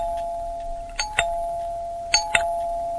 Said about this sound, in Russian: Дети еще пели, как в квартиру кто-то позвонил.